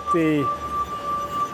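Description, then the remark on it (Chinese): Wine glasses played as a glass harp, sixty stemmed glasses fixed with rubber bands on a soundboard, filled with distilled water and rubbed at the rims with wet fingertips: a steady, pure ringing tone sustains throughout, with a brief cluster of lower glassy notes swelling near the start, moderately loud. “他演奏玻璃琴已经50年了。”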